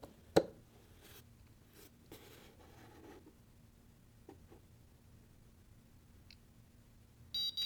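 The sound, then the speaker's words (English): Quiet clicks and soft handling noises as an electronic circuit alarm is plugged in give way, right at the end, to the alarm starting up with loud, rapid beeping. “And after only 9 seconds of sleep, you hear the awful alarm sounding away. I'm gonna go ahead and plug in our alarm here.”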